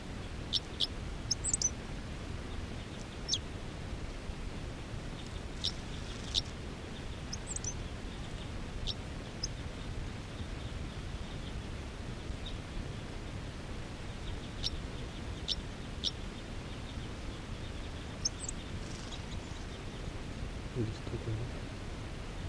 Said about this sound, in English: Song by the man. A lot of the other wild birds are calling.